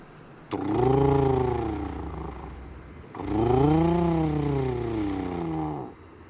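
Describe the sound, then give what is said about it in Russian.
Airplane engines at an airport by a cold sea in winter rumble in two long, loud droning bursts as the planes clear their turbines, their pitch rising and then sinking again like turbines spooling up and winding down, with a short pause between them. “Тарахтят они, прочищая турбины.”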